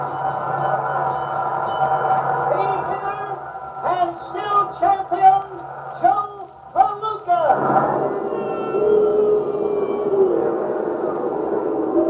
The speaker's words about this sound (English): Here's boxing history for you. For the first time in his sensational career, Joe Palooka's being booed. Yes, even though he's a winner, the crowd's really down on him. Believe it or not, Joe Palooka's being booed.